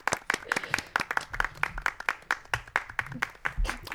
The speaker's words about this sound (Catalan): Un aplaudiment. Ai, un aplaudiment.